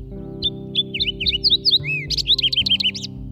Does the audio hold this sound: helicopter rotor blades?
no